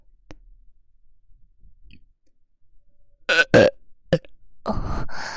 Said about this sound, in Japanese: 後で大きいのを出してしまいました。いいんですか？耳元でゲップしてしまって。もう一回やっちゃいますよ。